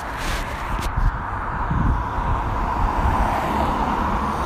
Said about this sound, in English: oh my goodness, Aston Martin DB5. Listen. Wow, number plate is 65DBX. Beautiful car.